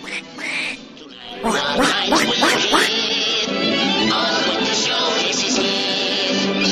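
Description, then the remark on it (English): A cartoon-style duck quacks in a rapid, raspy stream of nasal squawks, loud, running continuously with no speech over it, played as a jab calling Donald Trump "Donald Duck". “We're going to call you Donald Duck.”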